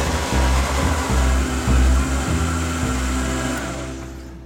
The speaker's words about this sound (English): Okay, and then we just put the blender on until everything's nice and combined.